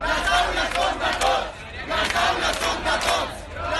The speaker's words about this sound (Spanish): Las aulas son de todos, es lo que gritaban estos estudiantes que trataban de abrirse paso entre los piquetes para poder acceder a sus clases.